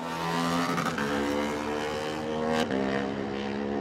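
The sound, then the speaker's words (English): A loud racing motorcycle engine, Mike Brown's KMR Kawasaki Jack Reed Cars machine, pulls away from the start, holding a steady, droning pitch that climbs slightly, with a couple of sharp revving bursts. No voices. “Mike Brown will look to overcome his retirement on the KMR Kawasaki Jack Reed Cars machine.”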